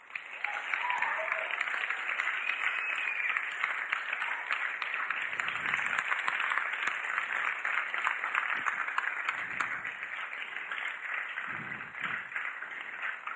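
A crowd bursts into sustained applause honoring the leaders of 33 life groups, a dense wash of many hands clapping at steady loudness for over ten seconds, with faint murmurs of voices underneath.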